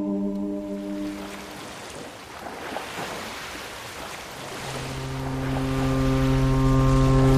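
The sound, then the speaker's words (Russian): A deep horn sounds from the 12-deck ocean steamship Europa, bound from Bremen to New York. It gives way to rushing sea water and engine rumble, then a second long, loud horn blast swells and holds through the end. No one speaks. “В Бремене пересели на океанский 12-этажный пароход «Европа», который должен был нас доставить в Нью-Йорк.”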